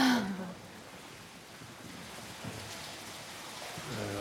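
A waterfall pours steadily down a narrow shaft from the surface into a flooded inner cave chamber, a continuous broad hiss and splash, with brief bits of a voice at the start and end.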